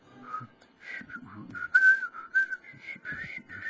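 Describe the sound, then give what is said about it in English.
Someone tries to whistle, producing a breathy, wavering tune of short uneven notes that jump around in pitch, with audible puffs of air between them and no talking. “Well, this morning, I was saying to myself, I can whistle, but I'm trying too hard.”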